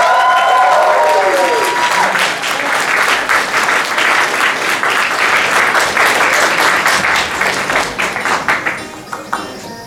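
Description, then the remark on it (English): A crowd applauds a costume contest award winner loudly and steadily with dense, overlapping clapping, and a voice briefly rises above it at the start. The clapping thins into scattered claps near the end. “Keep that applause going, everybody.”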